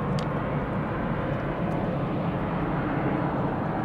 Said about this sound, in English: And it's distracting to have planes landing over my head. And I know that some people don't like that in the podcast. I actually love it. The sound of the fire, the sound of the night, planes landing at the airport, at Minneapolis-St. Paul Airport.